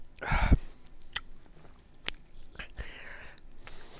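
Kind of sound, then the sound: food or drink, chewing food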